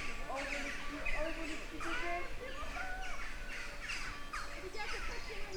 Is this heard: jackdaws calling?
yes